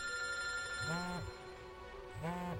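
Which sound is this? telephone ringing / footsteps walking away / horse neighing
telephone ringing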